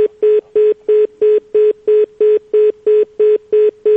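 A rapid series of identical electronic telephone beeps, about three per second, repeating steadily as a listener's call to a radio programme is cut off, loud and clear with no voices.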